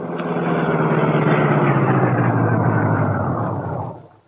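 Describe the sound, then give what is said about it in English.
A car engine rumbles steadily at low speed, a constant droning hum with a throaty low tone, even in volume before easing away and fading out at the end. The car swings off the road and drives toward the shore by moonlight without its lights on. “Guard not see car moving toward shore.”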